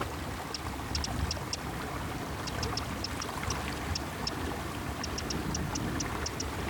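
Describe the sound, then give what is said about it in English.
A small stream gushes steadily out of a little hidden gully on a hillside, swollen after much rain, a continuous broad rushing of water that never lets up, while a little bird chirps in quick high bursts over the top. “you get these streams gushing out of little hidden gullies. And because we've had so much rain, they're really, really, really pumping the water out now.”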